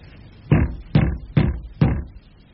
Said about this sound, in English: Knock at the door. Something's being locked away inside. That makes me curious. Knock again.